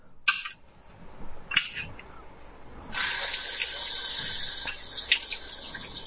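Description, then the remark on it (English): A couple of brief clinks, then a steady, bright stream of a quarter cup of water pouring for several seconds while cooking potatoes in a pot on the stove, with no talking over it. “So there's our water. So that's a quarter cup of water and a cup of milk.”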